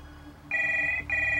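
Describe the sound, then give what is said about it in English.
A telephone rings loudly, two bright electronic trills separated by a brief gap, over a low steady background hum with no one talking. “Dismayed, Alex steps over to the phone.”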